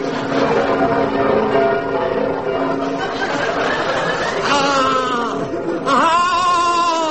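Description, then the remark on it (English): Church bells ring loudly and continuously, their overlapping tones blending into a dense, sustained clangour, with faint crowd chatter and laughter mixed beneath. “Ah! The bells! I must ring the bells!”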